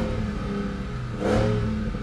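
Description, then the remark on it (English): A muscle car engine, in a car capable of 204 miles per hour and 0 to 60 in under 4 seconds, rumbles loudly with a deep, throaty drone, then revs up sharply about halfway through, the roar swelling and lingering for the last second. “It's an absolute beast of a car, and it sounds insane.”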